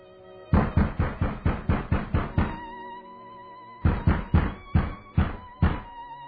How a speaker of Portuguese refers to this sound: Porém, nas primeiras horas da manhã seguinte, um mensageiro apressado bate com alarde à porta da residência do senador.